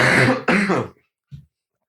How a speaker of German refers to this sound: ja, ich merke schon, da kommt der nächste Hustenanfall. Katastrophe, Alter.